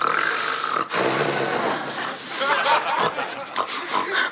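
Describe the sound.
A person imitates Nelson's snoring with loud, raspy, pig-like snorts and grunts, rising and falling in rough pulses for several seconds without pause.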